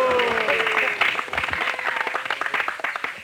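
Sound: hand clapping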